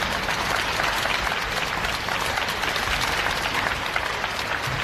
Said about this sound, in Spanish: Aplauso tras el minuto de silencio, sonido que hemos recogido en el Mercado Central de Valencia a la misma hora en la que paraban también todas las instituciones públicas.